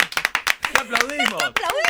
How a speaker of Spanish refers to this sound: ¡Qué aplaudimos, querido!